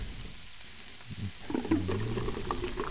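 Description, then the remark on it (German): Meat sizzles in a hot pan with a steady crackling hiss that grows busier and louder partway through, with faint clinks and stirring sounds and no one speaking. “Kocht schon.”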